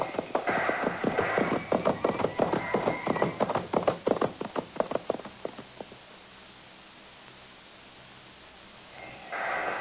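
Horses galloping on a hard ride: a quick, steady drumming of hoofbeats that starts loud and rapid, then fades over several seconds into a low, quiet rumble before a brief swell of noise at the end.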